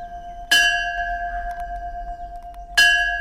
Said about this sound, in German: Der Tag fängt früh an im Shantivanam Ashram. Um 5 Uhr am Morgen läuten die Glocken vom Tempel, Zeit zum Aufstehen.